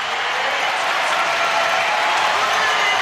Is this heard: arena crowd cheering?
yes